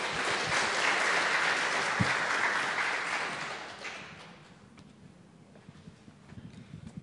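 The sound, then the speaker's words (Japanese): An audience applauds with dense, steady clapping for about four seconds to welcome two people coming to the front to give a testimony, then the clapping thins out and fades into scattered claps and quiet rustling. “じゃあ皆さん拍手でですね、迎えてください。”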